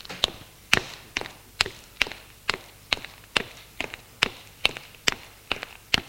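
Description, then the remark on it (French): Footsteps of a man climbing the staircase of an old building, number 14 on rue de l'Annonciade, up to the third floor at a steady, unhurried pace, about fourteen crisp, even treads in a row, moderately loud, with no voices and only faint background hum. “Il monte au troisième étage.”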